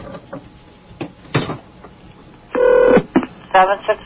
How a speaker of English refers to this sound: Oh, go ahead, turn it up. I like to hear the sounds of the phone being dialed. Here it goes. You like that? It's just a great sound.